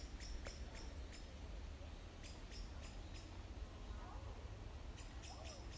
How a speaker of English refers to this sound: especially with the racket of the birds. Well, not racket of the birds. The chirping.